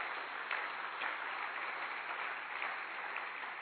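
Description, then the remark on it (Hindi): Steady applause from an audience at a silver jubilee celebration fills the whole stretch, a dense wash of many hands clapping at an even level with no voices over it. “तालियों की कमी क्यों।”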